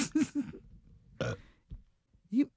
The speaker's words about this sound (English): Over a burp?